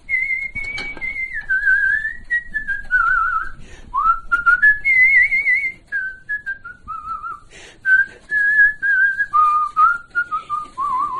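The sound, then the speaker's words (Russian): A person whistles a remembered song melody, the tune rising and falling in connected phrases with brief breaths between them, heard on its own without any talking. “Хожу и все насвистываю что-нибудь. Какую-нибудь песню вспомню, насвистываю.”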